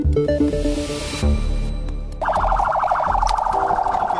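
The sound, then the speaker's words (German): An ambulance siren in Abuja, Nigeria, on its way to the site of an attack: street noise and engine rumble give way to the siren warbling rapidly and loudly, its pulsing tone continuing steadily over the traffic to the end. “In Nigerias Hauptstadt Abuja sind Krankenwagen auf dem Weg zu einem Anschlagsort.”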